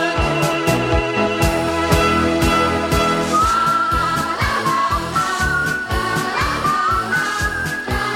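A bright, cheerful melody is whistled over a bouncy band backing with a steady, thumping beat. The whistling is clear and up front, and no one speaks.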